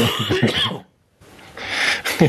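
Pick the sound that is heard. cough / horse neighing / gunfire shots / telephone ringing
cough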